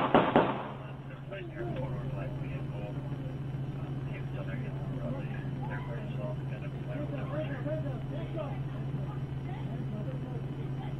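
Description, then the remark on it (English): A loud, sharp burst of gunfire, the fatal shots in a police standoff at Legacy Court, cracks out right at the start, then gives way to muffled voices over a steady low electrical hum; audio played back from a video recording. “Those gunshots you just heard were the fatal ones.”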